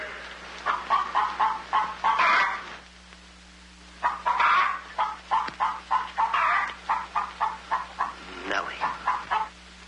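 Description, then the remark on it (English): A hen clucks in quick, rhythmic bursts of short notes, pausing briefly before resuming a steady run of clucks, fairly loud over a low background hum. “Lay, hen, lay.”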